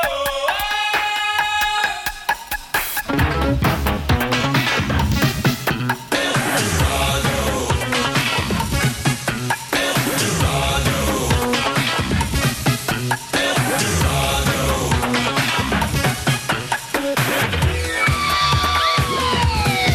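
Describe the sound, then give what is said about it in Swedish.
The theme jingle specially written by a British musician for the Swedish radio programme Eldorado (Eldorado Max): dense, driving music with heavy bass and busy rhythm, opening and closing on wailing, siren-like synth tones. Loud throughout, with no talking. “som specialskrev den vignetten för just Eldorado. Så här låter ju den.”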